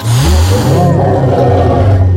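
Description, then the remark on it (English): Loud, rumbling roars voiced by people imitating animals, the story characters Lion and Cat roaring at a boy reaching for animal crackers in a park: a growly, engine-like snarl sustained for a couple of seconds, continuous. “Nice roars, Lion and Cat.”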